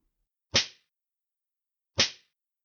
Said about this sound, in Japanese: その少年、鞭で叩き直してあげる。ほら、ほら、ほら。 ほら、歯を食いしばって我慢なさい。女王様の鞭、ありがたく受け止めるのよ。